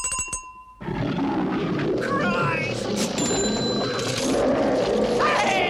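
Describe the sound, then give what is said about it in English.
A brief bell-like chime rings, then a loud Bengal tiger roar erupts and rumbles on steadily, growling and snarling for several seconds without pause. “And finally, oh God, finally some eye drops being bought in the chemist just down the street by a Bengal tiger.”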